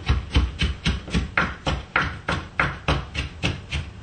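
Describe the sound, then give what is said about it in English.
A knife chops onion on a cutting board in a steady rhythm, about two crisp thudding strokes per second, with no talking. “Yeah, if you want to start the chopping on that, get it down to smaller pieces, then I'll do the final chopping.”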